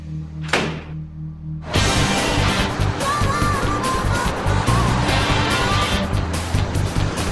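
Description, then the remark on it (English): A door shuts with a single solid thunk amid low rumbling, then a loud, dense roar like an engine starting up takes over and continues steadily to the end. “Shut that door, let's go.”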